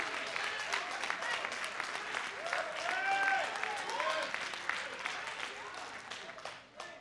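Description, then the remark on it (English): A church audience bursts into sustained applause giving praise to God, mixed with scattered cheers and shouted voices, a dense steady wash of clapping that holds for several seconds before tapering off at the end. “Somebody give him a real good praise.”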